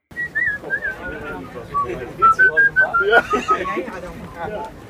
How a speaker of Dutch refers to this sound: Maar ik heb dus gewoon nog niemand ooit gevonden die zo goed kan fluiten. En dat mis ik zo erg. Ik heb echt 2 seconden op film staan. Echt letterlijk 2 seconden.